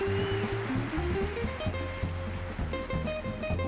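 Steady crackling applause from a live crowd after a jazz performance, a dense patter of many hands clapping at an even level, with sustained musical tones still ringing underneath from the band.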